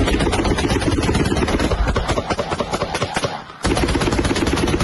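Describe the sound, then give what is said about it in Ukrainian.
Loud, sustained automatic anti-aircraft gunfire from a Ukrainian mobile air defense group firing at a Shahed kamikaze drone, at the moment it is shot down, rattles in rapid bursts over a steady droning rumble, breaking off briefly near the end before resuming at full intensity. “В этом случае военные зафиксировали момент сбития «Шахеда».”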